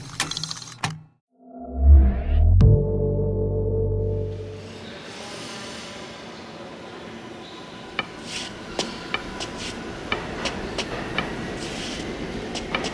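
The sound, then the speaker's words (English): A subway train rumbles loudly as it pulls away, its deep low roar and whine giving way to steady track noise with scattered metallic clanks and rattles. “Stop the train!”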